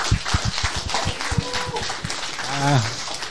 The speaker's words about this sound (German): Ja, danke, dein Applaus nochmal, ne? Also, das war doch cool.